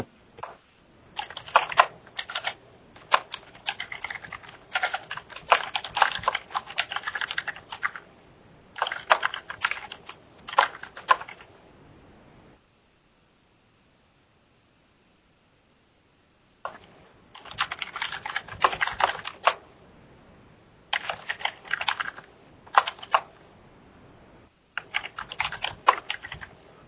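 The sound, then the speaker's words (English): Rapid clatter of fingers typing up notes on a computer keyboard in bursts, with a few seconds of silence in the middle before the typing resumes. No one speaks. “I was just typing up those notes.”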